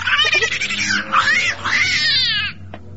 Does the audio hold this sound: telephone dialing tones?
no